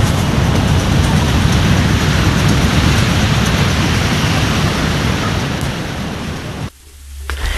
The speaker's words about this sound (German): Ach, dieses rauschende Meer, das ist einfach irgendwie sowas von entspannend, beruhigend für mich.